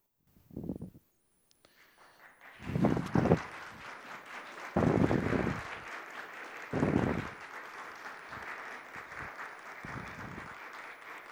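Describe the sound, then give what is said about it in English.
An audience breaks into sustained applause after a sermon, a dense, steady patter of many hands clapping that lasts several seconds, with occasional low thumps beneath it. “They're just brown-nosing because they made a joke about clapping during the sermon.”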